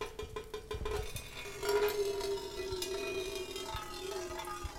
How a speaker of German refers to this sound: Und wenn man das alles unter die Schlauchöffnungen der Flaschen legt, wie mag das klingen? Die ersten zarten Töne. Wassertropfen fallen auf eine Blechdose.